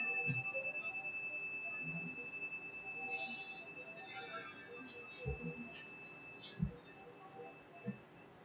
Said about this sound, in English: I'll ring the chime at the beginning and to end this time of silence.